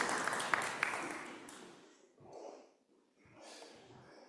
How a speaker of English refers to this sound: Give everyone a big clap.